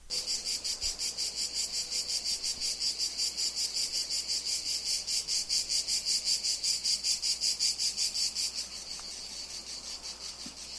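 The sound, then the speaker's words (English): A single lone cicada chirrs loudly at a house in Italy, a dense high-pitched buzz pulsing in rapid, steady rhythm that eases slightly softer near the end, with no voices. “These are the cicadas at Simon's house. This is one lone cicada, just one.”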